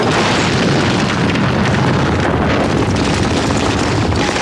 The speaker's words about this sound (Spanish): Una explosión levanta pulpa sanguinolenta.